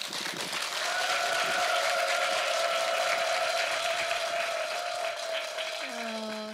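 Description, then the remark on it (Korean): An audience claps and cheers loudly and steadily for several seconds, welcoming the next performance, a dense unbroken wash of applause with a sustained tone running through it and a low musical note entering just before it fades. “여러분 큰 박수와 환호 부탁드리겠습니다.”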